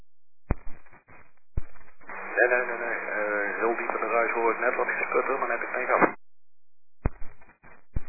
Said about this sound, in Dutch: Nee, heel diep in de ruis hoor ik net wat gesputter